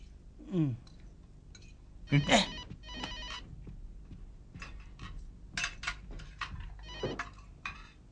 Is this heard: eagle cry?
no